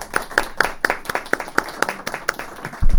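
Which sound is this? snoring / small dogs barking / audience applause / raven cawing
audience applause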